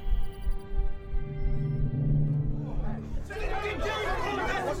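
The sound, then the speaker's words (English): A dense crowd of captains, in-system and long-haul, all talking at once in the Captain's Guild hall: a loud overlapping babble that starts muddy and low, then swells into brighter, busier chatter with no single voice standing out. “The Captain's Guild buzzed like a kicked beehive. In-system captains, long-haul captains, all talking at once by the noise level.”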